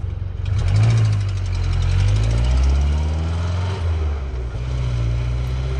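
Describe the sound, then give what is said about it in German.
A car engine runs steadily, a deep droning rumble with a slight rhythmic throb, loud and continuous throughout with no voices. “Doch lieber ins Auto.”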